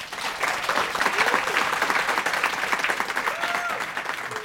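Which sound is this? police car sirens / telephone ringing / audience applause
audience applause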